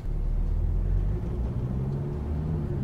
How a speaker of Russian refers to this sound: И звук мотора, и покрышки, и то, что проникает со стороны колесных арок, все это достаточно хорошо чувствуется.